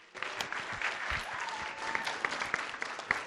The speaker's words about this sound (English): Up next for our toast givers, let's get a nice big round of applause for our best man and father of our groom,